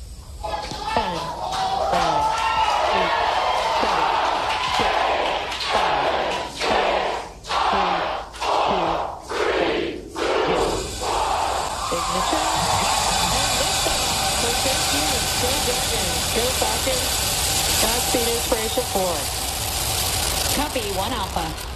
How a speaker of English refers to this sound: So here's the launch. Let's listen to the launch.